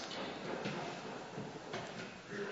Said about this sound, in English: Does that bother you fellows, that knocking? Well, it does me.